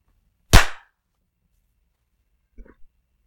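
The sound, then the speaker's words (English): A single sharp, loud hand clap marking the end of a countdown rings out with a brief decay, followed by silence and a couple of faint, soft knocks a couple of seconds later. “I was waiting for the clap.”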